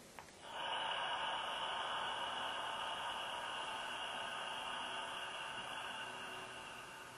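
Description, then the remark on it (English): A single long, steady breath, drawn in through the nose and let out gently through the mouth with a soft ah or ha, a soft airy rush that holds evenly for several seconds and fades slightly at the end, with no talking. “Breathing in through your nose, belly to chest, and breathing out through your mouth, gently, softly, with an ah or a ha, window fogging breath.”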